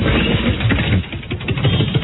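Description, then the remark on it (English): A compressor motor in a studio runs with a loud, steady low-pitched drone and mechanical rattle, continuing throughout with a brief dip in the middle; no one speaks. “This is what the compressor literally sounds like.”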